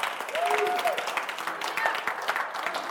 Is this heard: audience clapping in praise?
yes